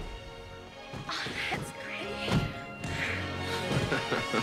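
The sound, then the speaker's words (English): Fireworks go off in the night sky above a scoreboard after a home run animation, in a quick series of sharp, booming bursts at uneven intervals, each crackling explosion standing out over a steady tonal background. “A home run animation is followed by magnificent fireworks in the sky above it.”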